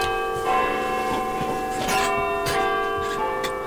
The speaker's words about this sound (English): This is Studio S34, just before the 6 o'clock evening news on Radio 4, and preparations for a daily ritual, the live sound of Big Ben.